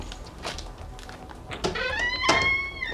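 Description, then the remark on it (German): A house door creaks open a crack, its hinge letting out a thin, wavering squeal after a soft thump, alone with no voices. “Doch bevor er fündig wurde, öffnete sich die Tür einen Spalt.”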